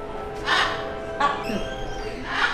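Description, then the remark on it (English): Harsh, raspy squawks from brightly colored parrots at the entrance of a children's hospital in Puerto Rico ring out three times at uneven intervals, loud, over a steady background hum of a bustling facility. “San Jorge Children's Hospital is Puerto Rico's largest pediatric hospital, a bustling facility with subspecialties in surgery, rheumatology, oncology, and at every entrance, brightly colored parrots.”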